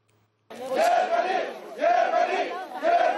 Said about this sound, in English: Migrants chanted Germany loudly.